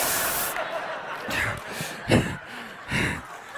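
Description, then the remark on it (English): A sharp sneeze bursts out between breathy, hissing exhales and gasps, with a rush of noisy air at the start; no one speaks. “Bless you.”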